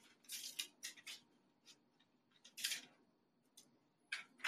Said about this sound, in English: So I'm going to cut a small, clean piece of parchment, not wax paper.